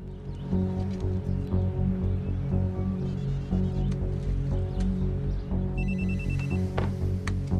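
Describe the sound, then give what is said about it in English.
A cell phone rings with a steady electronic ringtone that repeats throughout, loud, with a brief higher chirp near the end and no talking. “Palmer reaches for his cell phone.”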